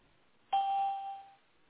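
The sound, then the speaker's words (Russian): A single electronic prompt tone from a telecom company's phone menu, signalling the caller to enter a 12-digit account number or 10-digit home phone number: one clear, steady mid-high beep that starts abruptly, holds for nearly a second, then fades out, with no voices. “Если вы хотите получить информацию по своим услугам, пожалуйста, после звукового сигнала введите 12-значный номер лицевого счета или 10-значный номер домашнего телефона и нажмите решетку.”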